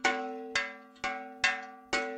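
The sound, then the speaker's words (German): An early medieval iron-sheet bell, probably forged in the 8th century at the island monastery of Iona in western Scotland, rings five times at a steady, unhurried pace, each strike a muted, clanking tone with a low hum and a short, subdued decay, like a cowbell. “Sie klingt noch recht verhalten.”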